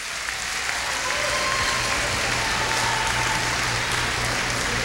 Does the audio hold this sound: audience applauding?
yes